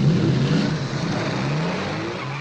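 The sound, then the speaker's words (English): Hot rod engines roar loudly and rev, the pitch sliding up and down as the cars speed off into the night, a steady dense rumble with no voices; a street drag racing scene from the 1958 MGM movie High School Confidential. “And, of course, the hot rods go flying off into the night.”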